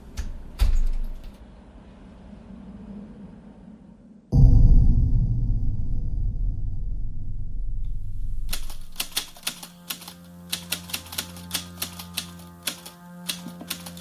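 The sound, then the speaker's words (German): A low rumble, then a heavy door of a house thuds shut, followed by a run of sharp metallic clicks and rattles as keys lock it. No one speaks. “Und vergessen Sie bitte nicht, die Tür abzuschließen.”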